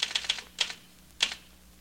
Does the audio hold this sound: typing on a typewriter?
yes